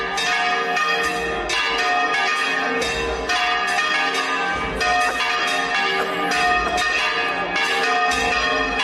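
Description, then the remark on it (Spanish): Church bells peal continuously over the Plaza de la Trinidad, an open town square, as a religious procession's image of Christ arrives, many overlapping strikes ringing loudly and densely with rich lingering overtones, no voices audible. “La Plaza de la Trinidad se inunda con sonidos de campanas cuando llega el Cristo de la Santa Faz”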